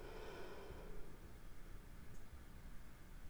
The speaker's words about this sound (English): For now, you might start by taking a nice, full, deep breath.